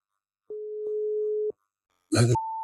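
A single steady telephone ringing tone of an outgoing call to a man from the former Asker and Bærum police district sounds for about a second, then a short clattering burst as the line connects, followed by a higher-pitched electronic tone.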